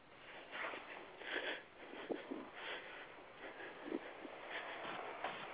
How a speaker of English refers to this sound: My private caller, you're breathing on the air.